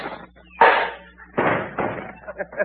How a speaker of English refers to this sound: I'll stop him. I'll throw a cuspidor at him.